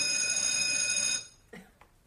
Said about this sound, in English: Or, I guess I'm done. Bell's ringing.